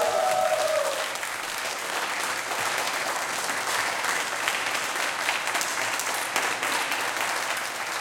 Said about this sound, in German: Ich wollte jetzt einfach nochmal diesen tollen Applaus hier hören, weil das hat richtig Spaß gemacht.